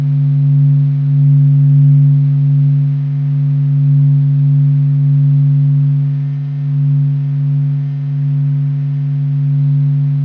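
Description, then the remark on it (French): A steady, low electronic hum of the Sun's vibrations, from solar matter with its eruptions and plasma bulbs, rendered as sound, with a strong droning tone and a fainter overtone above it, sustained and slightly wavering in loudness throughout, with no voices. “Ce bourdonnement est celui de la matière solaire avec ses éruptions et ses bulbes de plasma.”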